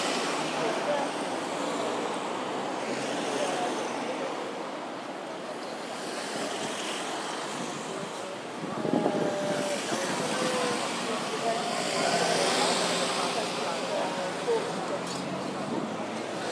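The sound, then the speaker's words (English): A steady, fairly loud roar of evening road traffic at the entrance to Embankment Road, with vehicles swelling past and blending into a constant wash of noise, plus some wind buffeting. “Lots of traffic this evening.”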